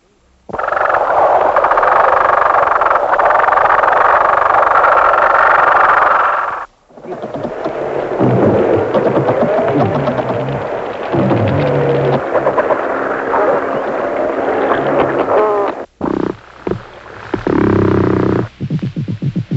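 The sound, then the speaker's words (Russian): Underwater hydrophone recording of fish clicking and grinding: a dense, loud chorus of rasping croaks and scraping clicks, continuous with a couple of brief pauses, and no voices. “щелкая жаберными крышками или костяшками брони, у кого она есть, скрежеща зубами, а то и позвонками о позвонки.”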